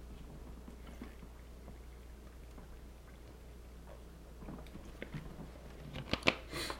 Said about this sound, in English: Let me take a sip real quick.